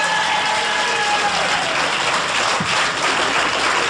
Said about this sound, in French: Et ça s'applaudit, ça, hein.